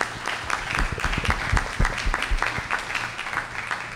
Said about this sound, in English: Round of applause again for the JSO Honor Guard.